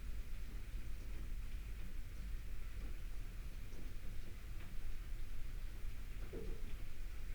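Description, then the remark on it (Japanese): Steady rain falls continuously, a dense even hiss with no breaks, while a low rumble like thunder rolls underneath. No voices, just the rain throughout. “雨止まないね。”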